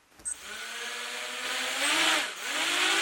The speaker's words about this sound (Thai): อากาศยานไร้คนขับหรือโดรนบินร่อนไปทั่วห้องประชุมภายในมหาวิทยาลัยวอชิงตันที่นครซีแอตเทิลรัฐวอชิงตันเพื่อเป็นส่วนหนึ่งของการเรียนการสอนในห้องปฏิบัติการระบบอากาศยานอิสระ